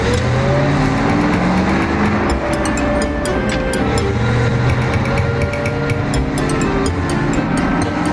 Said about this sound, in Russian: Пашка завел машину и выехал со двора